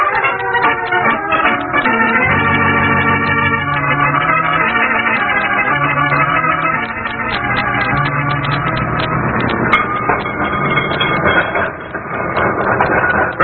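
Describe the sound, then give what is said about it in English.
A cable car rolls down Knob Hill with a loud, steady mechanical rumble, dense clattering and rattling, and sustained whining tones over the grinding motion. No voices are heard. “I'm crazy about riding in the open section of these cable cars.”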